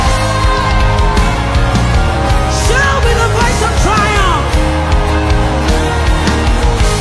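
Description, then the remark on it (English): A crowd shouts and cheers loudly all at once with a voice of triumph, many voices overlapping in rising and falling yells over a steady musical backdrop, sustained without a break. “Shouting with the voice of triumph.”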